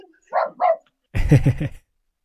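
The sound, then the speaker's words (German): Dogs bark excitedly at someone standing at the door: two quick yips followed by a louder, rapid burst of several barks, then quiet. No one speaks. “Wer hat sich da jetzt gerade aufgeregt? Entschuldigung, das waren gerade meine Hunde. Hier steht jemand an der Tür.”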